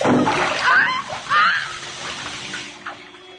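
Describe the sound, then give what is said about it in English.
Vigorous splashing in bath water, coming in a few heavy surges and then settling into lighter sloshing, with vocal sounds mixed in beneath the splashes. “Oh, no, not in the water, Charles. Charles, please don't.”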